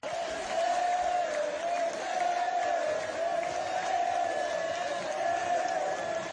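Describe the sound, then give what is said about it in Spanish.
A large crowd of Unión Deportiva Las Palmas football fans chants at the Estadio de Gran Canaria before the presentation of a new player, a sustained, steady roar of voices, the sung tone holding and swelling slightly throughout with no pauses, loud and continuous. “Fíjense los cánticos de la afición antes de la presentación del nuevo jugador amarillo.”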